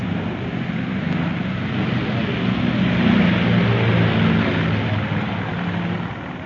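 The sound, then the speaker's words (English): A steady, loud airplane engine drone with a low rumbling hum fills the scene at an airport, holding constant throughout with no voices and only slight swells in intensity. “Yes, I gather we'll be boarding the plane in about 5 minutes.”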